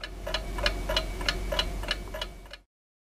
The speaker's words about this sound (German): Tick, tack, tick, tack. Zeit und Uhren.